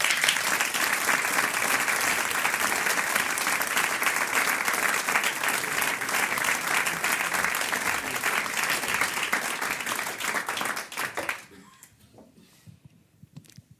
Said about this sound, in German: Mit einem riesengroßen Applaus